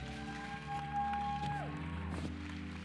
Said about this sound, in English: Come on, give God a great clap.